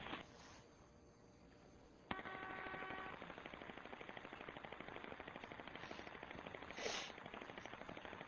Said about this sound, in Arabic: في طيارة هليكوبتر